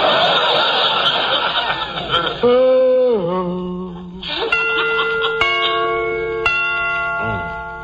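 Clock chimes strike the hour in a few resonant, overlapping strikes that hum and sustain, following an opening of rough, breathy noise and wavering tones that could be a chuckling voice.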